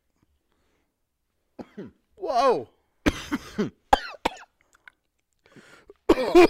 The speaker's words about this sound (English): That hurt. You okay? I tried to push out a cough and it didn't. It just like squeezed my throat.